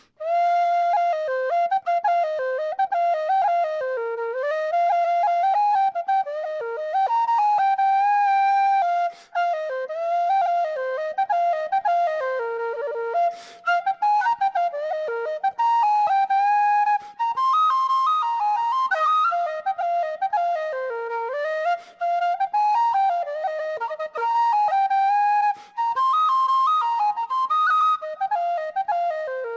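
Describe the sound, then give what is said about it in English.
A B-flat tin whistle, lower, deeper and warmer sounding, plays a lively, ornamented tune alone for about thirty seconds, steady in volume, with quick runs and brief breath pauses between phrases. “So I'll play you a little bit on the B-flat whistle.”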